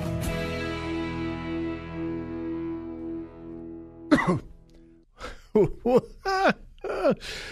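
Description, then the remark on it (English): A sustained musical chord rings out and fades, then a sharp cough breaks in, followed by a quick run of short, throaty coughs, at the start of a live radio show; not a COVID cough. “I apologize for beginning with a cough.”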